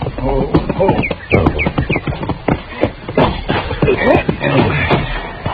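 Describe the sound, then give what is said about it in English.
Horse hooves clip-clop in a steady, uneven rhythm of sharp knocks, filling the whole stretch with shuffling footfalls over a busy background. “He's got a new horse.”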